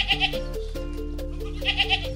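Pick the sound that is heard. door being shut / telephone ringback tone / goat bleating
goat bleating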